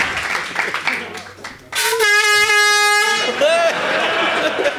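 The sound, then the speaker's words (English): A loud, sustained air horn blast cuts in for over a second with a bright, buzzy harmonic tone, sounded to mark the winner of a trivia game, following a stretch of indistinct chatter, with voices and noise resuming right after. “Hit that air horn.”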